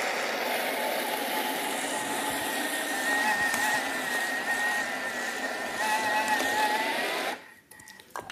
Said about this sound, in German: Und dann kommt Wasser dazu. Jetzt tun wir das erstmal ein bisschen grob mixen. Und dann kommt das Wasser dazu, dann geht es besser.